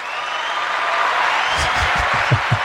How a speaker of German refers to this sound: Also endlich applaudiert dir mal einer. Bitte. Ich nehme das immer alles nur als gegeben hin. Bitte, bitte hört nicht auf zu klatschen.